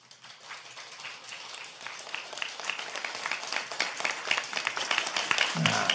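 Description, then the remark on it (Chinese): An audience breaks into applause, many hands clapping in a dense, steady patter that swells gradually louder over several seconds with no voices. “好，既然你们鼓掌了，我就给你们讲个笑话啊！”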